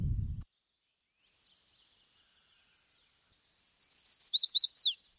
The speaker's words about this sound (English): One of our local migrants that we're going to learn about today is the chestnut-sided warbler. It migrates all the way to Central America.